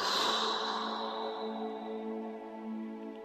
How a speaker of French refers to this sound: Inspiration. Blocage de la respiration pendant quelques secondes. Tension de tout le corps. Je maintiens. Et souffle.